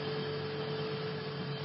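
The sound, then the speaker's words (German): A steady, even mechanical hum from a refrigerator, with a low drone and a faint constant whine, unchanging throughout and heard alone with no talking. “Ja, jetzt zum Beispiel der Kühlschrank.”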